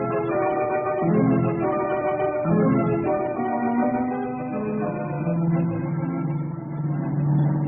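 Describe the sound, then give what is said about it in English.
A car engine roars loud, revving hard as its pitch climbs and dips repeatedly while accelerating in a car chase, as Tasso and Harper push their car to its limit, with no voices, sustained for several seconds. “Tasso and Harper are certainly giving their car all it can take.”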